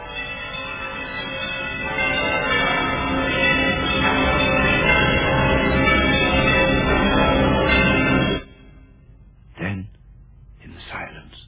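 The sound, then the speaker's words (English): Every bell in a huge, empty house clangs and rings together loudly in a dense, sustained din for about eight seconds, then cuts off abruptly, followed by a couple of brief, fainter sounds. “But soon it rang out loudly, and so did every bell in that huge, empty house.”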